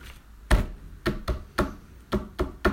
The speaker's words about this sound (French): t'entends le tambour des Indiens?